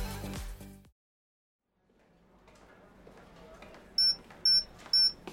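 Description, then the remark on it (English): An electronic device emits three loud, high-pitched beeps at a steady interval, cutting through quiet background noise that follows a brief stretch of silence. “Your thing is beeping.”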